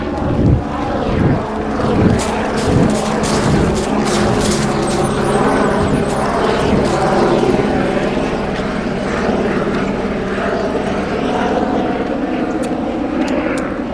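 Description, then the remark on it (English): A helicopter flying overhead drones loudly and steadily for the whole stretch, its low engine hum and rotor throb layered with a broad rushing roar, with a few brief clattering thumps near the start. “You hear the sound of the obnoxious helicopter.”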